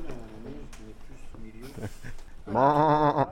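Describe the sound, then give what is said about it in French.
A person talks briefly, then lets out a loud, quavering vocal bleat, an actress's human imitation of a frightened sheep on stage in a play, wavering for nearly a second at the end. “Et moi, je fais le mouton qui a peur et qui belle.”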